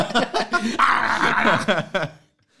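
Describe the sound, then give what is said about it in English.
A person vocally imitates a dog, letting out a rapid run of barks, yips and growly whines for about two seconds before stopping abruptly. “We didn't have a dog, so I had to be the dog.”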